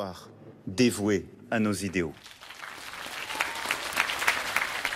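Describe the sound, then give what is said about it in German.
A voice rings out loudly for about two seconds, then invited guests on two stands in front of the Panthéon greet Josephine Baker's coffin with dense, steady applause and scattered cheering continuing to the end. “Mit Jubel und Applaus begrüßten auch die geladenen Gäste auf den zwei Tribünen direkt vor dem Pantheon den Sarg Bakers.”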